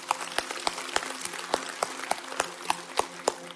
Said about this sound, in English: All campuses, let's cheer.